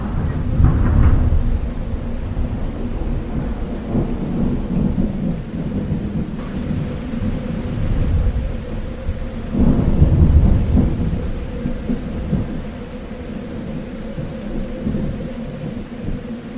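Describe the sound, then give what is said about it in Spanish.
A thunderstorm with deep, rolling thunder rumbling steadily throughout, swelling into louder peaks near the start and around the middle, over a constant wash of rain. “Una tormenta hizo que los barcos quedaran inservibles para un viaje de vuelta”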